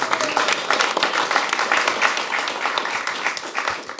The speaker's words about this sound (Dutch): Ja, ook hartelijk even een applaus voor die mensen, jongens.